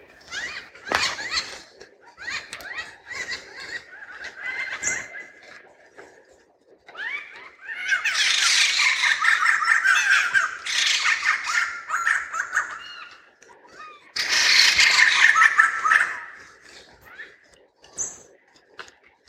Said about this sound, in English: So We're going to try for that and try for some more forest birds, see how it goes. And here are some forest birds, a raucous band of white-crested laughing thrushes.